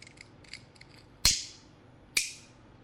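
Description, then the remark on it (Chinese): A few soft handling clicks, then two sharp, bright flicks of a lighter about a second apart, each ringing briefly before fading. Fairly quiet, with no voices. “酒精和打火机”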